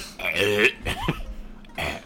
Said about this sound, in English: Jesus Christ. I had a burp. Shut up.